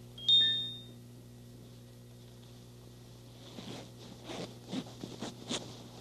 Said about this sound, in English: You know what kind of a costume it might be? Zip it up here.